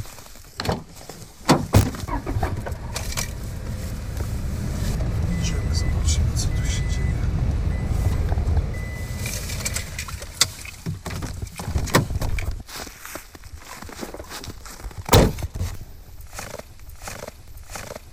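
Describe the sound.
A steady low engine rumble of a car ride runs for several seconds, then fades into sharp clunks and clicks like doors opening and shutting as people get out of the car onto a forest clearing beside wolf tracks, with occasional voices.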